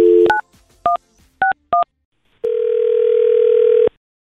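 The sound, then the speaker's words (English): A few quick touch-tone beeps are dialed in an uneven rhythm as a phone call is placed to a man, followed by a steady, loud telephone tone that holds for over a second and then cuts off. No one speaks. “So we do have Connor's phone number. And let's call him right now.”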